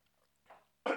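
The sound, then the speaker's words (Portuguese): Someone sips water: a soft, brief slurp, a short pause, then a louder, breathy gulping sound at the end, with no talking. “Deixa eu tomar um golinho de água.”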